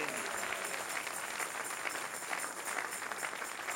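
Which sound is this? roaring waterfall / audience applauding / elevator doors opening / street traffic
audience applauding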